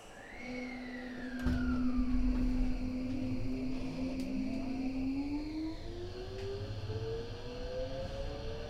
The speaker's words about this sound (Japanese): ご乗車ありがとうございます。この電車は急行船橋行きです。次は船橋終点です。